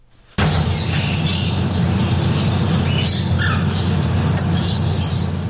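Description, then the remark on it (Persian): A dense, constant chorus of about 110 uncaged birds, canaries of various colours, talking parrots and several other kinds, squawking and chirping together inside a tea house in Bangkok, Thailand, loud and busy throughout, with brief sharper calls rising above the steady clamor. “انواع کناری ها با رنگ های مختلف، توتی های ناطق و چند نوع پرنده در این چایخانه دیده می شوند.”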